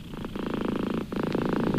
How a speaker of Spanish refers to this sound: Ah, es el ronroneo de la luna.